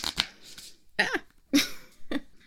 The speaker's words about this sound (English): Hold on, I'm trying to shuffle cards and talk at the same time. It's not working.